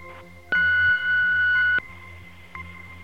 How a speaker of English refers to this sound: Leave your message and your email address after the beep.